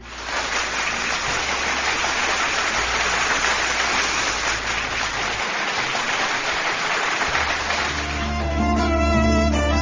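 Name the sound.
applause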